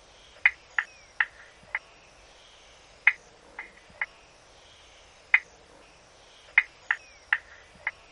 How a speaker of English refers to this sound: Next, we'll hear the three marsh frogs. Limnodynastes tasmaniensis, the spotted marsh frog.